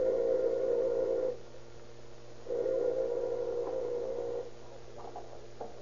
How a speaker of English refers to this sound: A few moments after he has entered the house, Dr. Hatch hears the doorbell ring.